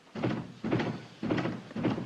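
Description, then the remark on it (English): A door being worked open and shut, heard as four heavy, evenly spaced wooden thumps about half a second apart, fairly loud, with no voices. “Come on in, honey. The door is open.”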